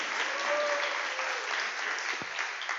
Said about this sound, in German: Vielen Dank, kleinen Applaus für meine Frau.